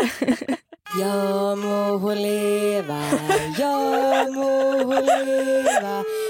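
A short, slow tune played on two flutes, a new one and an old one: long sustained notes with a few stepwise pitch changes and slight wavering, played loudly and alone for about five seconds after a brief noise.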